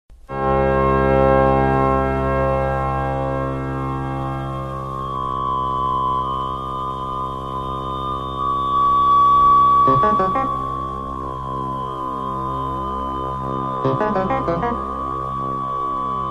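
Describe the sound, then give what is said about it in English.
Cheap Casio electronic keyboard tones from a horror movie soundtrack hold a thick, buzzy chord that drones steadily for the whole stretch, with harmonics slowly wobbling and shifting. The sound is loud, and no one speaks. “How about some more Casio tones from the Slumber Party Massacre soundtrack?”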